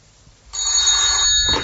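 After a brief quiet moment, a telephone bell suddenly starts ringing, loud, with a bright metallic jangle that continues steadily to the end.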